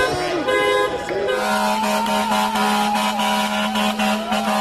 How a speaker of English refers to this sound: Tonight I'm here at Gracie Mansion. I will be joined by a few hundred individuals who will be coming here with their vehicles, honking their horns in front of Gracie Mansion.